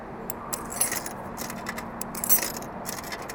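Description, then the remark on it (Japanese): Loose coins jingle and clink in a few bright metallic bursts as change is found to buy mineral barley tea from a drink vending machine at a bus stop, with soft handling rustle between them over a steady low hum; no one speaks. “じゃあちょっと一応ミネラル麦茶を買ってみるかな。これちょっと待ってね、小銭を今探しますけど、あ、ちょうどあった。”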